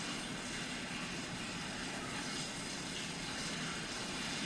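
A shower sound effect in a film's shower scene runs steadily, a continuous bright hiss of falling water that holds an even level throughout, with no voices or other sounds.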